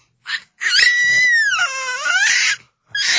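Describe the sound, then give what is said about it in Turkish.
A child loudly sings and shouts in a long, strained, high-pitched wail that wavers up and down, piercing, with a short burst before it and another starting at the end. “söylemeye başladı. Çok bağırdı.”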